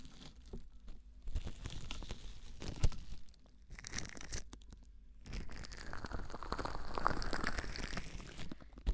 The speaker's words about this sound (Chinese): 我们把保鲜膜整理一下。